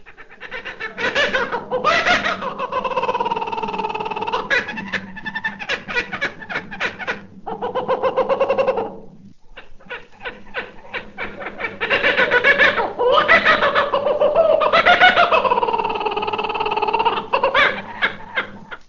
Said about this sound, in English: Kookaburra is known to all bird lovers as the great brown kingfisher or laughing jackass.